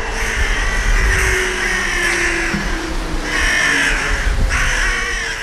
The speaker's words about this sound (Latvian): Nākamie radījumi, kas cilvēku pasaulē netiek īpaši cienīti, ir vārnas. Agresīvas, iznīcina mazus putniņus, uzbrūk pa cilvēkiem, rakājas pa atkritumiem, zaglīgas, gudras, viltīgas, interesantas. Visas šīs pieminētās īpašības piemīt vārnām.